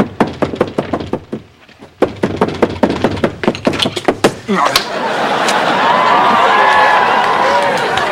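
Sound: knocking on a door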